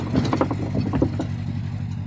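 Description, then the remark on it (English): A boat's engine drones past with a steady low rumble and hum, joined in the first second by irregular mechanical clattering and rattling that fades out, leaving the deep throb alone. “Sorry, a boat just went past.”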